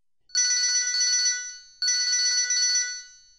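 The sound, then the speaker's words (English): A cell phone ringtone goes off in a theater during a play, chirping out in two bright, repeating bursts, each roughly a second and a half long with a short gap between, loud with no talking. “once stopped the show and berated an audience member when a cell phone went off”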